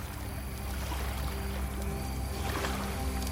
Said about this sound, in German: Sacht rollt im Hintergrund das Wasser des Sees in gleichmäßigen Bewegungen an das Ufer.